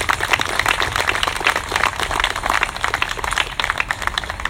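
An audience applauds steadily for several seconds, a dense, even wash of many hands clapping at once with no voices rising above it.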